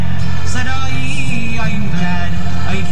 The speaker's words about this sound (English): The traffic whizzes by the 5800 block of Milwaukee Avenue in Jefferson Park.